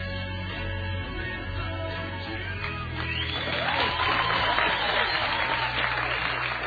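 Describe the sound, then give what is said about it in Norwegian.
An audience at the Magnus Barfot cinema in Bergen breaks into applause after a screening of the film Sirkel, with dense clapping that grows louder after a few seconds. Scattered voices and cheers rise from the crowd beneath it. “Slik hørtes det ut da filmen var over. Publikum var mer enn fornøyd, og jeg var imponert over Sirkel.”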